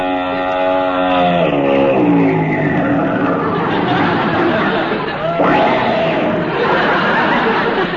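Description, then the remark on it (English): Mrs. Bob Orpington's big long limousine approaches, its engine droning and winding down in pitch as it slows and pulls up, with a steady wash of street noise and crowd murmur throughout. “Hey, that looks like Mrs. Bob Orpington's big long limousine coming this way.”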